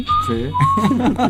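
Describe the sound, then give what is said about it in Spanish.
A person whistles a dramatic, drawn-out steady note, pauses briefly, then holds a second long whistled tone, fairly loud, with murmuring voices underneath. “Por otra parte, una pausa dramática, un silbido dramático.”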